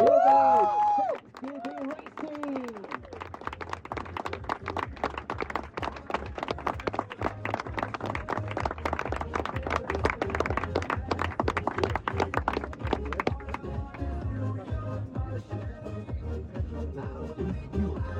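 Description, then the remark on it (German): An audience breaks into sustained applause, dense crackling clapping that runs for about ten seconds before thinning out, over a low, steady musical tone. “So, jetzt Applaus für die”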